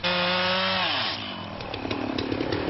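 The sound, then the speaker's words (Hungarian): A chainsaw whines steadily at high revs, then its pitch sags as it bites into a pine, turning into a loud, rough, rasping buzz of cutting with no voices. It is felling the 18-metre, 2-tonne pine on the Bükk plateau in Hungary that became the country's Christmas tree for Kossuth Square, Budapest. “Itt a bükkfensíkon vágták ki a fenyőt tegnap.”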